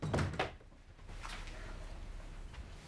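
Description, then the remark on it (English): A door swings shut with two dull thuds in quick succession as Uday closes it, followed by a low, steady background hum. No one speaks. “Uday closes the door with a dark, brooding expression on his tired face.”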